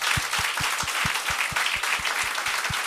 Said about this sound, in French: Ils n'ont jamais été ici ensemble, mais j'aimerais ça qu'on leur donne une bonne main d'applaudissement.